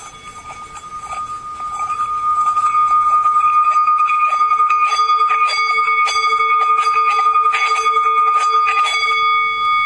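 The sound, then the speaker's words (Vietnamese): A bell is made to sing by rubbing rather than striking: a steady, ringing metallic tone swells gradually and holds, with faint scraping friction running underneath, without any voice. “Bây giờ mình không đánh chuông mà cho nó kêu, quý vị nghe.”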